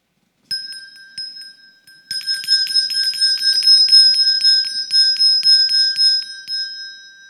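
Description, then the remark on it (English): A handbell, rung by a person standing by a red charity kettle in the Christmas season, rings once and lets its tone hang, then shakes rapidly and continuously in a bright, steady jangle, fairly loud with no voices. “You're going to see people ringing a bell, standing by a red kettle this Christmas season.”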